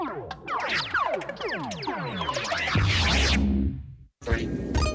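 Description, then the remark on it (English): Dense, loud electronic bleeps and zaps for an Atari video game commercial, made on a Buchla synthesizer, with rapid rising and falling pitch sweeps piling over one another, cutting out briefly before a final burst. “Atari video games.”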